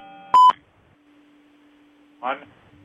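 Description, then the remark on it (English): A single short, loud electronic beep signals a caller joining the line, followed by a steady low hum and a brief snatch of a voice near the end. “Got a caller on. I heard a beep.”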